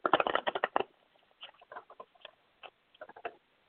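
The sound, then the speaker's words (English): Tarot cards being shuffled: a quick riffling flurry of papery flaps at first, then a few scattered soft snaps and slides as the deck settles, with no voices. “Just got to shuffle my cards.”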